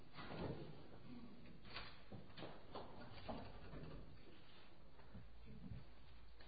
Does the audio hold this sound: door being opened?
yes